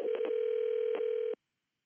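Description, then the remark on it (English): A telephone call to the Stone Trust, a group in Vermont, ringing out: a single steady, mid-low electronic tone holds for over a second, broken by a few brief clicks, then stops abruptly into silence. “So we called them up.”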